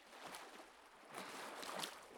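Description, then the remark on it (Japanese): Soft ocean waves wash near the shore on a breezy day, a steady hiss of water swelling gently in a few rolling surges. Quiet and fairly close, with no voices. “波の音も心地いいわ。近くで聞くとどうしてこんなにも心が休まるのかしら。”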